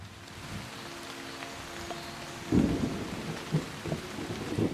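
Steady rain patters on a house and gardens in Kentucky throughout, with low rumbles of thunder rolling in partway through and recurring in heavy bursts. No voices, just a continuous wet wash of a storm outdoors.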